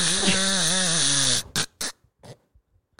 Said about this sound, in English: He do be snoring. That baby be snoring. No, I know I do too, but that baby be snoring.